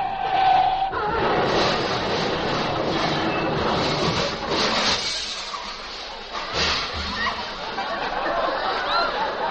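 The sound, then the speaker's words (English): A train approaching a railroad crossing rumbles and clatters steadily, its loud, broad rolling noise filling the whole stretch, with a brief high tone near the start like a horn or crossing signal. “There's a train, yeah. And we're both heading for the same crossing.”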